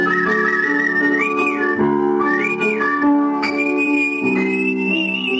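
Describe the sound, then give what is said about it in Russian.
Artistic whistling: a clear, bright whistled melody glides and swoops between sustained notes, carried steadily over a full instrumental accompaniment. It is continuous and prominent, with no talking. “Передача Тамары Лиленковой «Художественный свист».”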